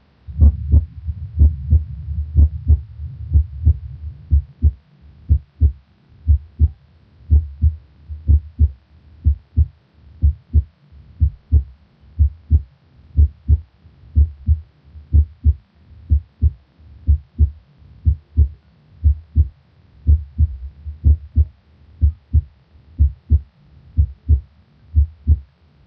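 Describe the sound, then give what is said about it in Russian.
Steady, low-pitched heartbeat heard through a stethoscope at the tricuspid valve auscultation point, a regular lub-dub rhythm with the first sound louder than the second, slightly quieter than at the apex, over a soft background hum with no voices. “Аускультативная картина здесь близка определяемой на верхушке, однако громкость тонов несколько меньше. Обратите внимание на преобладание громкости первого тона.”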